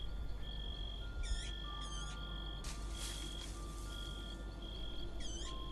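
A small bird, found alone, chirps in three short, quick bursts spaced a few seconds apart, clear, over a steady high-pitched tonal hum and soft background noise, with no talking.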